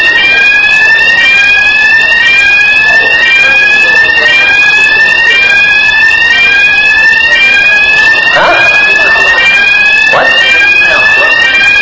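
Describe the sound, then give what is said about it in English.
A loud fire alarm blares continuously during a sermon, its electronic tones sweeping upward in rapid repeating pulses, with faint background noise and a few muffled bumps underneath. “It is a fire alarm.”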